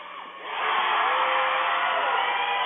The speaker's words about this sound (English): I don't think I'm going to have to tell you whether or not the free throw is good. I think you'll be able to hear from the crowd.